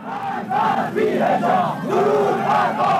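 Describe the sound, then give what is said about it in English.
A loud mob of counter-protesters chants in unison on the streets against women protesters, many voices rising and falling in repeated rhythmic phrases with shouted, strained tones, steady and dense throughout. “And on the streets, women continued to be attacked by counter-protesters, or more accurately, chanting mobs.”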